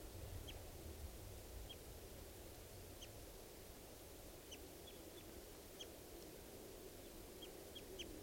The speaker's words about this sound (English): And they were in the same tree as the adult female, and they're calling here. That's the adult male, that's the gray, male gray. Both birds. Male. Male then gray.